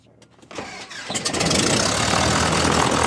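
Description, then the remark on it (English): The engine of a Cessna 172 Skyhawk cranks with a few sputtering beats, then catches and roars up into a loud, steady drone that fills the rest of the moment, starting up for a flight in Auburn, Alabama. “The engine of this Cessna 172 Skyhawk roars to life for a flight in Auburn, Alabama.”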